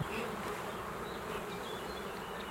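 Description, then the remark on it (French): A healthy black honeybee colony hums with a steady, even drone of countless wings, regular and unbroken throughout, with no voices over it. “Alors, je ne sais pas si vous entendez, mais le bruit est significatif d'une colonie qui va bien.”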